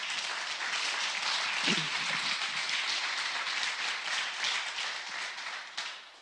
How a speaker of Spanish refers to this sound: ¿Por qué, si es que usted cree eso, por qué no le da un fuerte aplauso a Dios?